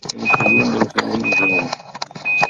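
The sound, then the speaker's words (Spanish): An alarm beeps in steady, high-pitched tones, about one beep per second, repeating three times over a busy, rumbling background noise. “No sean las alarmas Acá estoy, de las alarmas, cohetes, sí.”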